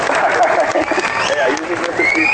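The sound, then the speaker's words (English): A burst of crowd applause played as a sound effect, dense steady clapping with a few whistles and cheers mixed in, loud and continuous for a couple of seconds. “There's a little bit of applause for you”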